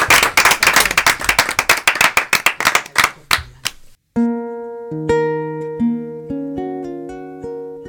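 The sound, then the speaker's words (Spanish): Audience applause for the women guests, a dense burst of many hands clapping that thins out and fades after about four seconds, followed by a clean melodic music sting with sustained keyboard-like notes. “Y un aplauso para estas mujeres maravillosas que nos han acompañado.”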